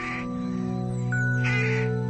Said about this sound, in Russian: и, укладываясь на ночлег, шумно кричат грачи.